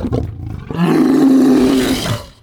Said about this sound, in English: As Horik downs the last Deinonychus, you hear the trademarked Tyrannosaurus Rex roar.